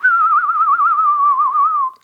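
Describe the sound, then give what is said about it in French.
A person whistles a blackbird's song, one sustained, clear whistle lasting about two seconds, its pitch gently warbling up and down before it fades. Fairly loud, with no talking. “Et quant au merle, eh bien, c'est fini les grands voyages. Maintenant, il reste chez nous et on l'entend siffler tous les matins.”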